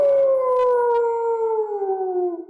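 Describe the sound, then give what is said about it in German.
A watchdog lets out one long, loud, sustained howl that slowly slides downward in pitch, unbroken, with no talking. “Er sollte also sofort Alarm schlagen, wenn fremde Truppen in die Burg eindringen wollten.”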